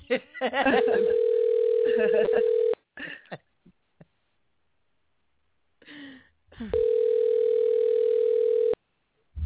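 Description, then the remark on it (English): Outgoing phone ringback on a call that goes unanswered: two long, steady electronic ring tones, each about two seconds, separated by a pause of several seconds, with brief muffled noises in between. “You better pick up that phone”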